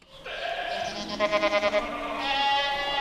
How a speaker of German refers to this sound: Mit Stallkino lockt der Ziegenhof in Zollbrücke. Durch ein großes Fenster schaut der Besucher auf 120 deutsche weiße Edelziegen, die friedlich meckernd im Stroh liegen. Neugierig schauen die Ziegen zurück.